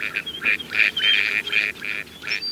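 A dabbling duck swimming on a pond calls repeatedly in a quick series of raspy, nasal quacks, clear, with faint outdoor background and no voices.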